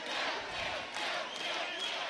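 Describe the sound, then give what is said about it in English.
A large crowd cheers and shouts together, a loud, sustained roar of many voices that swells and holds steady throughout, with no single speaker standing out. “all right, let's hear a cheer.”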